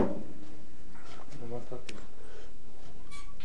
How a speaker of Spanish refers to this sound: Déjeme, le cierro la puerta.